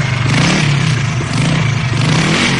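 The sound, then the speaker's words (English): The motorbike of Rent-a-Santa, who has traded his reindeer for it, revs loudly, its rough mid-pitched drone rising as it accelerates, with a steady rumble and some rattling clatter filling the whole stretch. “But this year, he's traded in his reindeer for a motorbike.”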